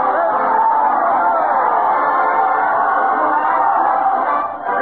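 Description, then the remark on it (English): A dense crowd at a parade led by Fred Allen to the old Town Hall chatters and cheers steadily, many overlapping voices blending into a loud, continuous wash of happy noise with no single voice standing out, dipping slightly only at the very end. “Let's join the happy crowd, folks.”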